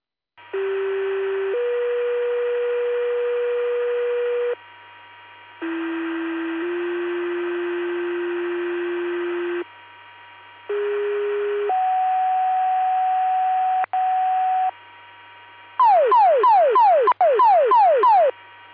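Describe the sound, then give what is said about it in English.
Sequential two-tone fire department pager test alerts for Spring Valley and Peru Fire Department: steady paired tones hold for a few seconds each in three sets, then a rapid warbling burst of descending sweeps closes it out, loud and clear with no talking. “Please disregard the tones, reset your pagers, and the test.”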